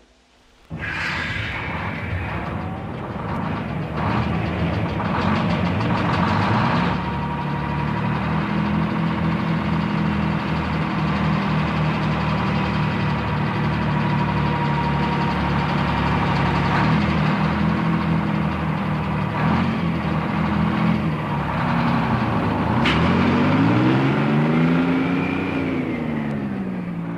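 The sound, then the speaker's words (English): A heavy truck engine starts up on a test run and runs steadily with a deep, rumbling drone, its pitch rising and falling as it revs and pulls away, loud throughout with no voices. “Tell it to bring round a spare truck. Usual test run.”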